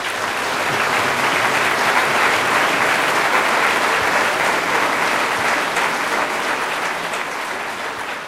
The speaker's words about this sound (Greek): Για τους πανάξιους οργανοπαίκτες μας, παρακαλώ πάρα πολύ να επαναλάβουμε ένα δυνατό χειροκρότημα.